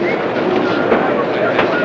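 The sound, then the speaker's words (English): A subway station as a train rolls through, a loud, steady roar of rumbling wheels and rattling cars, continuous, with indistinct crowd voices mixed underneath. “The woman runs after him down a crowded staircase to a subway station.”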